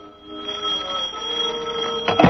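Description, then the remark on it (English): A telephone in an office rings with a steady, bright, trilling bell tone that holds for about two seconds, clear, with no voices, and ends in a short clatter. “I'd just gotten back to the four walls and desk I laughingly call my office, shuffled the two ads and rent bill that represented my mail, and lit a cigarette when the phone rang.”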